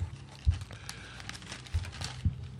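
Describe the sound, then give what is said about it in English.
Paper rustles and crinkles, shaken in a few short bursts with soft thumps between, quiet and continuous with no voices. “As you hear me shaking the paper in the background.”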